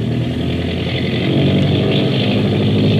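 A motor boat engine drones loudly with a dense, buzzing low rumble, its roar swelling slightly as the throttle opens up, at nightfall in deep water at sea, the boat digging its stern down and throwing up a bow wash. No voices.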